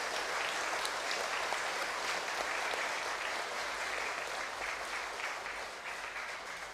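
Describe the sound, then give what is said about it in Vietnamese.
A big crowd claps loudly and steadily for several seconds, applauding the volunteers who decorated, cleaned and cooked for a collective wedding of 50 couples. A dense, even wash of applause holds strong throughout and only eases slightly at the very end. “Hãy tán dương họ bằng một tràng vỗ tay thật lớn, thật giòn, thật dài.”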